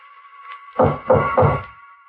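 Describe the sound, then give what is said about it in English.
Three heavy, evenly spaced, loud knocks on a wooden door, sounding over a faint, steady humming tone in the background. “He knocks on my door.”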